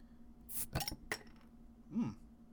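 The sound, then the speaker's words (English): A sealed vintage glass soda bottle, from about the mid-90s, is pried open: a short hiss of escaping gas with a few sharp glassy clinks and clicks, followed by a brief muffled sound. “I found this vintage soda still sealed.”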